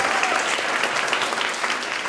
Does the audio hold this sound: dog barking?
no